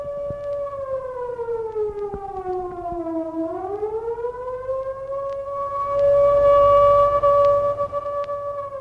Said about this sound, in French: Tout à coup, une sirène vient de retentir, qu'il fait sursauter et le paralyse. Elle vient d'une bijouterie.